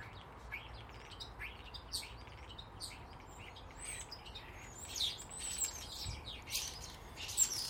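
A single bird sings in quick, high chirps and short twittering phrases that come and go over a low, steady background hiss, with a sharper, louder note near the end.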